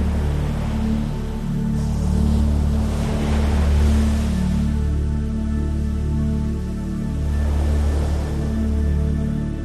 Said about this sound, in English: As the next wave crashes, the water comes closer and closer to your feet.